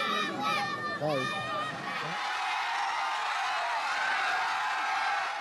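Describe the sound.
A crowd breaks into screaming as Boko Haram fighters execute a man in public, several high, strained voices shrieking at once before blending into a loud, continuous roar of panicked yelling that lasts to the end.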